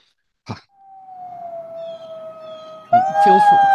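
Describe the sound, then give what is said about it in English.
A brief thump, then one wolf lets out a long, steady howl that sags slightly in pitch before several more wolves join in a louder, overlapping chorus near the end. “So here's the wolves to lead us off, that we may have that quality.”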